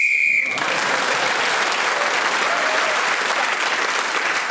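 A referee's whistle ends a round of a panel game while Lisa Tarbuck is speaking: a single shrill, steady blast lasting about half a second, cut off abruptly as loud, sustained applause breaks out and continues to the end.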